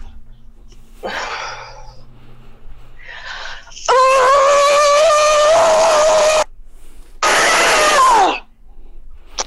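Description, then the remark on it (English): Over a phone call, a person lets out two loud, strained shouts at full force, as loud as they can, the first long and sustained, the second shorter, after a few softer breathy vocal sounds. “but what you want to do, even in this moment, like try shouting, just on the phone now with me, just say something like, I want to kill him!”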